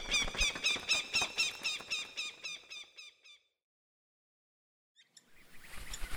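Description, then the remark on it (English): A sharp-shinned hawk gives a rapid, insistent series of shrill, high-pitched calls for about three seconds. Silence follows, then a short burst of rustling noise; the hawk's brisk wing beats are part of the sound. “The brisk wing beat of the sharp-shinned hawk.”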